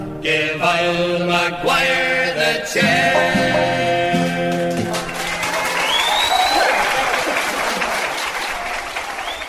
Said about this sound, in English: Well deserved applause there